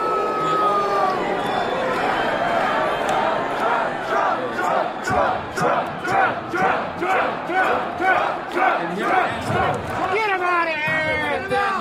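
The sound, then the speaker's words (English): A large crowd at a Trump rally shouts in loud, rhythmic unison, drowning out a lone protester yelling for gun control, with dense overlapping voices and chanting bursts throughout. “It's not long before we hear a protester yell for gun control. So I'm on TV. The crowd quickly shouts him down.”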